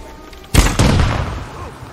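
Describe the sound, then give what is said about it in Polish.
An explosive arrow detonates in a video game: a sudden loud explosive blast at about half a second, followed by a second burst and a long rumbling decay that fades slowly, with no speech. “Mam jeszcze jedną wybuchową strzałę.”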